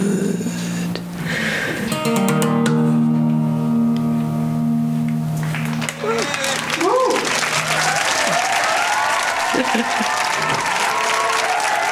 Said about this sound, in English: Love that applause. Wow, that was amazing.